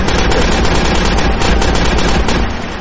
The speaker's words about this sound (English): do you hear all the gunfire outside your window? It's like you live in Ukraine. Maybe the neighbor's shooting a raccoon. There would be nothing left of the raccoon by this point. Maybe it's a bear.